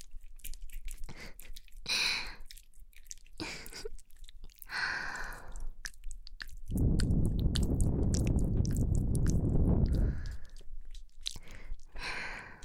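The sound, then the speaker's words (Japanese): Soft, breathy exhales and sighs close to the ear, with a few short wet mouth noises between them and one long, heavy, rushing breath in the middle. No one speaks. “ほら、またビクンって反応して、私の吐息で感じちゃったね。”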